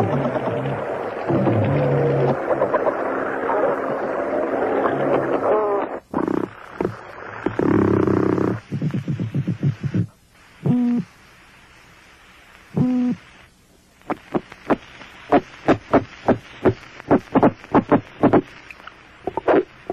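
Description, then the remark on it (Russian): An underwater hydrophone recording of fish sounds: a dense rasping, grinding texture gives way to low grunts and then a run of sharp, evenly spaced clicks, fairly loud, with no voices; fish make such sounds by vibrating swim bladders, clicking gill covers or armor plates, and grinding teeth or vertebrae. “щелкая жаберными крышками или костяшками брони, у кого она есть, скрежеща зубами, а то и позвонками о позвонки.”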